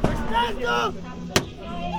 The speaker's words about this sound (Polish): Tamte strzały to kolejne egzekucje. Kulturalni Niemcy pokazali w Myszczanowie, na co ich stać.